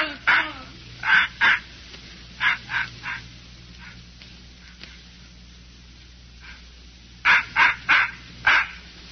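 A puppy named Scuttlebutt, aboard a ship, barks in quick, high-pitched yaps, loud, coming in short bursts of three or four, then falling quiet before another rapid run of yips near the end.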